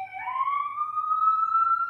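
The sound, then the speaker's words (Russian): An emergency vehicle siren wails outside, its tone sweeping upward and then holding a steady, piercing pitch, moderately loud and continuous over a faint low rumble, with no talking. “У меня тут тоже, видите, сирены.”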